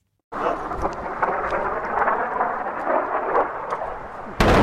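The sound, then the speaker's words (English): Israeli airstrikes on the edge of a village by the town of Nabatieh in southern Lebanon, next to a hospital: a loud, heavy explosion bursts in suddenly and rolls on as a long, booming rumble, then a second powerful blast strikes right at the end. No one speaks. “We're just about to leave at the end of the day, and the two more massive explosions. One airstrike hit the village here, that's on the edge of Nabatea, and we are right next to the hospital.”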